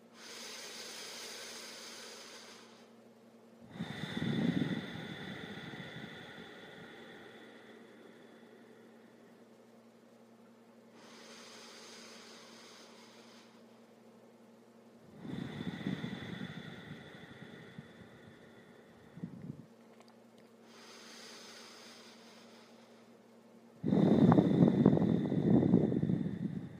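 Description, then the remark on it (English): Three slow, deep yogic dirgha breaths in a guided yoga practice, drawn in and let out about every ten seconds, each airy inhale followed by a fuller, rushing exhale, fairly soft with no talking. “And take three big, but easy, dirgha breaths, filling the entire body and releasing as much tension as possible. I'll breathe with you.”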